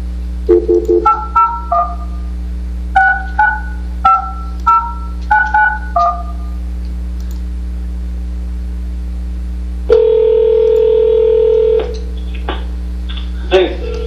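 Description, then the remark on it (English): Touch-tone keypad beeps as a phone number is dialed to call a public commenter during a Bethlehem City Council meeting, about ten quick paired tones in an uneven rhythm, then a long steady tone, all over a constant low electrical hum. “who I'll give a call to, and after that we'll open up the phone line to someone else who'd like to call in.”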